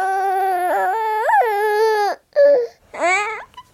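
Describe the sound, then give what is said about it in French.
An adult voice imitates the babbling of an angry, grumbling baby who is not happy: a long, strained, whiny wail with wavering pitch, followed by two shorter grunting cries. “peut-être un peu de colère quand elle va grogner parce qu'elle n'est pas contente, donc ça va être quelque chose comme”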